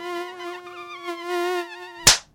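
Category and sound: insect, mosquitoes buzzing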